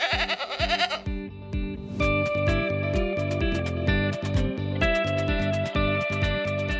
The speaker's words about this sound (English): So the real project to get the state ready for this year's major fires involves thousands of people, millions of dollars, and, as it turns out, quite a few goats.